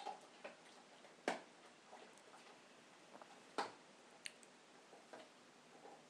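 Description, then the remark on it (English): Vance, a German Shepherd, crunches on a hard treat in a living room: sparse, sharp cracking bites, two louder crunches among several fainter clicks, irregularly spaced over a quiet background with no talking. “And he's taken it off to the other side of the living room. And you can hear it crunching there.”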